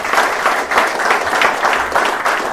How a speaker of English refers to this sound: Give him a round of applause for being honest.